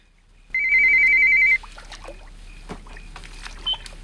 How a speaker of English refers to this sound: Cindy locks the front door, then looks round in horror at the ringing phone.